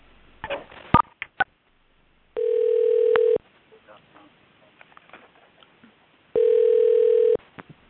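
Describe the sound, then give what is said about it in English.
A phone line's ringing tone sounds twice on a conference call, each steady electronic burst lasting about a second, separated by a few seconds of quiet line noise with faint clicks and rustling. “It seems like it's still ringing.”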